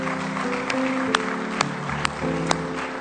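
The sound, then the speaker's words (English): A church audience claps in praise in a dense, steady wash of applause, with a few sharper claps landing on a regular beat, while sustained organ-like chords hold underneath. No one speaks. “Oh, just give him a good hand clap of praise if you love him.”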